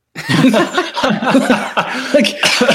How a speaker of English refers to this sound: Not even sick, and you got me coughing.